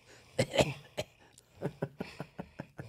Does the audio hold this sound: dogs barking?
no